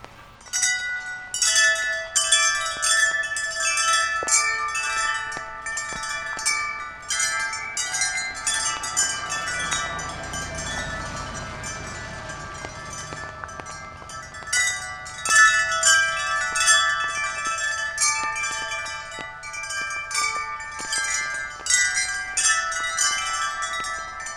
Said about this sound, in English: First, he shows us his 28-foot-long, 8-foot-high chime arbor, an open-air tunnel from which hang clusters of tuned silvery aluminum wind chimes. He enters from the south, reaches up, and brushes them in sequence.